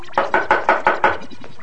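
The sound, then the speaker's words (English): Six firm, evenly spaced knocks on a door by a police officer, in quick succession and loud, with each rap ringing briefly before the next. No voices accompany them. “In the name of the law, open this door right away. I better get the door”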